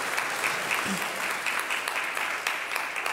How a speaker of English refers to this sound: I know over the years you were all trained not to clap when the choir's amazing, but sometimes it's okay. This would have been one of those times, because I could feel you all going, oh, no, we can't. You can, really. If you feel it, do it, all right